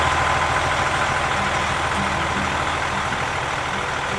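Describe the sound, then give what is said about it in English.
A diesel truck engine idles with a steady, loud, low rumble and a faint rhythmic throb, running unbroken throughout with no voices. “I can smell the diesel from here.”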